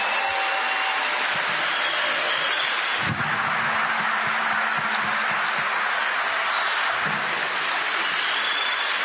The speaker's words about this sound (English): But these men and women in the Secret Service who travel with me, and the military people, they are amazing. Yeah. And I really appreciate you giving them a round of applause. They're right over here.